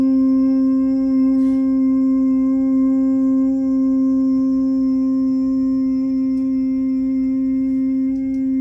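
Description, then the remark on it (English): A single voice chants a long, steady Om in a vocal exercise, prolonging the NG part into a sustained nasal hum that holds one unwavering pitch, loud and continuous for the whole stretch with no other talking. “And then, once you did a beautiful O, you know, arriving at the back of the throat, and then take it, prolong the NG part of the sound, and put it right there, just like you did during this humming exercise. So it's OM.”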